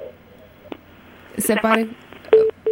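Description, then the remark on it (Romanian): Telephone line tones after a caller's call to a live radio phone-in drops: a muffled crackle and brief garbled voice, then two short, loud, steady beeps in quick succession near the end. “Se pare că s-a întrerupt.”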